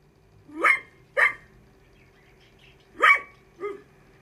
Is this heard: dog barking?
yes